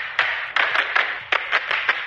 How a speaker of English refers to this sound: And Leicester City have their clappers?